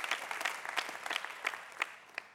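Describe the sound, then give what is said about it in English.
A Faith Church audience applauds itself, many hands clapping in a dense, steady patter with a few sharper claps standing out. No one speaks over it. “Go ahead, give it up for yourself.”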